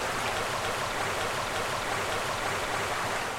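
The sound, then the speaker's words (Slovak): A steady, unbroken roar of rushing water from the Červené piesky waterfall, a 15-metre drop from rock in the Chočské vrchy mountains between Orava and Liptov, fills the whole stretch at an even, moderate loudness, with no voices or other sounds on top. “To vodopád červené piesky húčal aj po znárodnení. A húčí dodnes, ak zaprší.”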